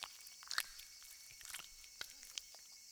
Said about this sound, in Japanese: よく泡立てて、泡はきめ細かい方がいいですから。